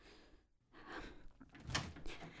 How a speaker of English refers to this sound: Come on. Open the door already.